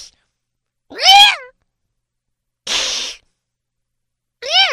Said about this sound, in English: That was eerily cat-like right there.